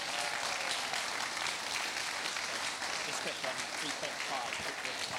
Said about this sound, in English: So should we give him a massive round of applause?